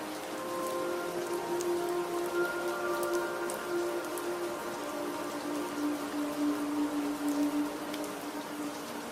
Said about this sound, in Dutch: En je hoort door een klein raampje dat open staat het geluid van knapperend hout in de open haard.